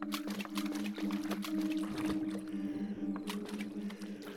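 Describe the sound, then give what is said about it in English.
Sloshing, splashing water sound effects repeat steadily over a low steady hum, played by a bug in a video game whenever the player character walks, with no one talking. “It's playing the water sounds. So, that's a bug.”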